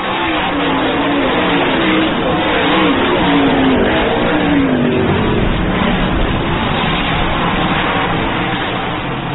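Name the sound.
race cars accelerating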